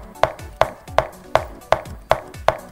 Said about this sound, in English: So, this is one of the noises that you may hear when an enemy is going to approach you.